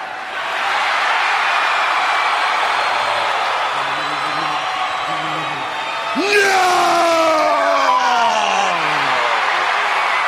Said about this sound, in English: Massive cheer that went up when she got on her knees.